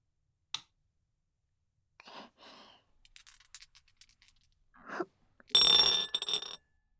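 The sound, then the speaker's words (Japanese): Three dice are rolled at the start of a board game, following its rules, clattering and rattling in short bursts, with scattered light clicks building to a loud, bright tumbling rattle near the end, landing on 1, 3 and 4. No voices. “じゃあテープレコーダーの録音ボタンを押したら、そうですね、ゲームのルールに従ってサイコロから振り始めますね。”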